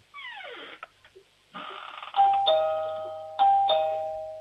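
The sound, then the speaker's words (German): A home doorbell in Bregenz, Vorarlberg, rings alone: a quick run of falling, sweeping electronic tones, then clear bell-like chime notes struck in two pairs, each ringing out loudly and slowly fading. “Türklingel haben. War sie schon da? Ah, jetzt. Die ist ja cool.”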